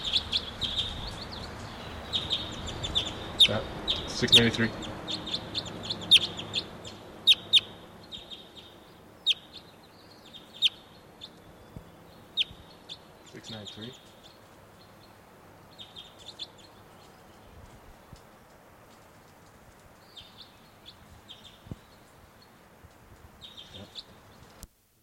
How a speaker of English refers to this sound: And there's a wild crossbill here. Wild. New bird number 693 here.